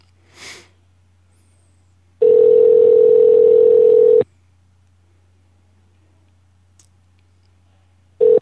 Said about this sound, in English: Love that sound. So hang with us, and it's ringing.